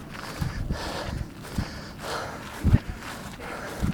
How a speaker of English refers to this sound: Can you hear those runners across the street?